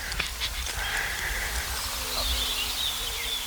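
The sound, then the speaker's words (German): Several birds in courtship mood, among them the first returned migrants, sing and chirp outdoors, high thin calls overlapping in a continuous chorus, with a steady low hum underneath and no one speaking. “Die ersten zurückgekehrten Vögel sind auch schon da. Wir werden hören, wen wir von den aufs Band kriegen.”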